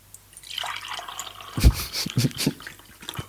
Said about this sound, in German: Achtung, jetzt kommt das obligatorische Gießen.